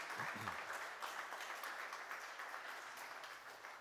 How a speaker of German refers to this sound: hat mal einen ganz großen Applaus verdient.